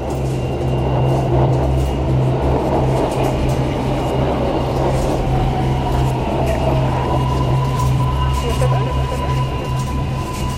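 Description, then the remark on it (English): A subway train rumbles steadily at a station platform, loud, with a low mechanical drone and a thin rising whine, while indistinct voices murmur in the background. “She got on the subway, but when she got off to transfer lines, she started to panic.”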